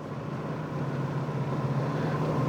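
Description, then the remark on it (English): A car engine idles next to a parked car at a drive-thru, with a steady, low rumbling hum that holds constant for the whole stretch, with no voices over it. “There's a car next to me.”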